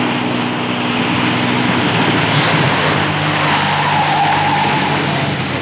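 A car engine roars steadily while tires squeal as the car makes a sharp turn onto a throughway, a rising whine sliding across the middle of the sound, with no voices.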